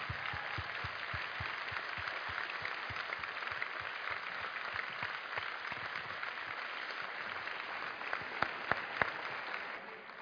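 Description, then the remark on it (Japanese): A church audience in Japan applauds God steadily for about ten seconds, many hands clapping in a dense, sustained wash with a few sharper claps standing out near the end before it tapers. “Let's give God a big round of applause if we can.”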